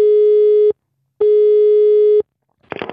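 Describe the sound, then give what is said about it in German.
A telephone signal tone sounds twice: two loud, steady, buzzy beeps separated by a short silence, the second one longer. A voice starts talking right at the end. “Dann Wochenende und schon wieder ein Telefon.”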